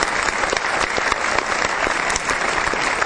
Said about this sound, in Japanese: 大きな拍手をお迎えください。